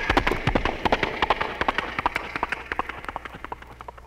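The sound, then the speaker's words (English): A voice imitates galloping horses with sounds made in the throat, using no props, into a standard stock Shure Brothers microphone: a rapid, steady run of throaty clopping beats, fairly loud, with no talking over it. “I do sounds in my throat like horses galloping.”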